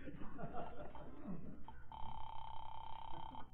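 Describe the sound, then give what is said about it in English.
A steady electronic telephone ring tone sounds once for about a second and a half, clear, following a short stretch of muffled background voices and bustle, as a telephone call is being placed. “The least I can do is call and find out if he's been trying to get me.”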